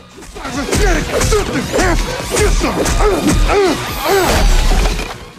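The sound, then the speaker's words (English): A rapid flurry of loud punches and thwacks lands in quick succession as Jax, who has robotic arms, pummels Cyrax with his fists in a fight, mixed with swishing movements and strained grunts and shouts, intense throughout. “Jax pummels Cyrax with his fists.”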